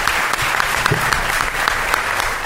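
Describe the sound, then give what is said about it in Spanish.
Steady audience applause, a dense crackle of many hands clapping at an even, sustained level with no gaps, and no voices standing out above it. “De verdad, por cierto, un aplauso para esa Eva que no ha podido venir, pobrecillo, hombre.”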